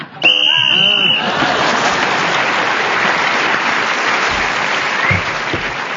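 A single shrill, steady whistle blast ends a round of a panel game as a panellist is speaking, lasting about a second, immediately swallowed by loud, sustained applause that carries on to the end.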